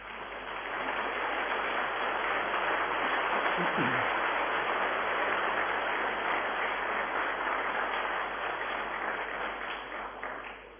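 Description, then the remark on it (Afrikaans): Steady, dense applause from an audience, a continuous wash of many hands clapping at an even level for about ten seconds before easing slightly at the end. “Klap gee.”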